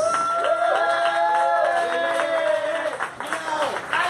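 A crowd applauds steadily with dense clapping for about four seconds, while loud cheers and rising whoops ride over the clapping.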